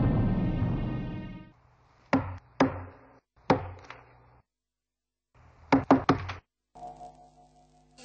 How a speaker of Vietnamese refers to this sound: Các người có nghe tiếng ai gõ cửa không?